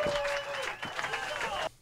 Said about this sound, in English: Clap it up for both these guys.